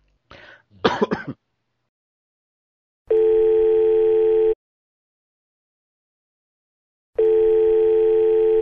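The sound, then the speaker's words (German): A throat clears, then two long, steady ringback tones sound on an outgoing phone call to a contact, unanswered so far. Each tone lasts about a second and a half, with a few seconds of silence between them. “Ja, jetzt warte noch, es hat ja erst zweimal geklingelt.”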